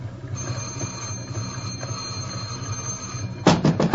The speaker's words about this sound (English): Open up! Where you been? I've been ringing this bell for 5 minutes.